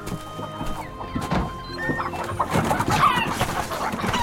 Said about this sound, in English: Hate chickens.